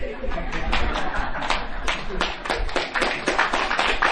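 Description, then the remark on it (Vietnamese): An audience claps steadily for about four seconds after hearing the Lotus Sutra chanted from memory. A dense patter of many hands carries sharper individual claps standing out, while faint murmuring voices run underneath. “Bây giờ quý vị nãy nghe tụng kinh Pháp Hoa thuộc cái vỗ tay râm râm râm râm râm.”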